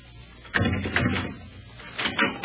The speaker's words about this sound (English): Open that door and step back.